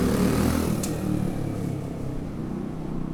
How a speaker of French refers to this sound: Des bruits de clés et une moto. Il y a beaucoup de motos. Je trouve qu'il y a beaucoup de motos et de scooters.